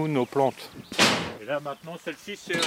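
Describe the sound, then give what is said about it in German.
The door of a glass greenhouse is pushed open with a short, loud rattling whoosh, briefly rising over a voice that keeps talking before and after it. “Avisard stößt die Tür zu einem gläsernen Gewächshaus auf.”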